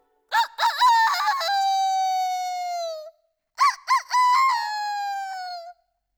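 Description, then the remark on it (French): A rooster crows twice, each call a loud cock-a-doodle-doo with a few choppy notes rising into a long sustained final note, separated by a short pause. “Il y a un beau coq qui fait bien.”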